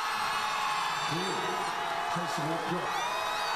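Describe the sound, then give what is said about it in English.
A large crowd in South Korea cheering as Parliament approved the impeachment motion against President Yoon Suk-yeol, a steady, dense roar with a few individual voices shouting rising and falling calls above the din throughout. “That sound of a large crowd cheering as Parliament approved the impeachment motion against South Korea's President Yoon Suk-yeol.”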